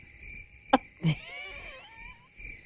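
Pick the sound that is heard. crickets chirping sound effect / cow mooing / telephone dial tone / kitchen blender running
crickets chirping sound effect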